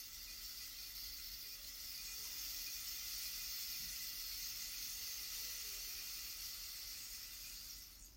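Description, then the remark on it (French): A rain stick played during a guided relaxation pours out a steady, dense shower of fine, bright pattering that stays smooth and even for several seconds before fading at the end, with no voices over it. “Toute la main droite, le bras droit se dépose au rythme du du bâton de pluie.”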